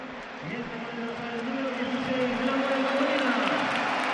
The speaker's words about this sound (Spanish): Han empezado los pitos, han ganado los aplausos, yo creo, ¿eh? Sí, aplauso al final, ¿eh?